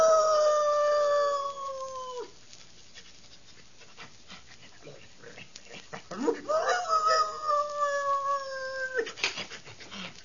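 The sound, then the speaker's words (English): The sheriff's dog lets out two long, sustained howls, each rising and holding a steady wavering pitch before trailing off, separated by a brief quieter pause with faint snuffling. “And later, when the ashes had cooled and while Sheriff Skinner was consoling Dr. Glazier on his loss, the sheriff's dog...”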